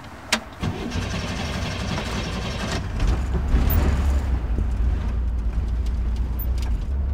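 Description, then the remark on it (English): A light yellow 1963 Corvair convertible engine cranks with a click and whirring starter, then catches around three seconds in and settles into a steady, rumbling idle, fairly loud, in a parking lot in Encino, California. “Start the car?”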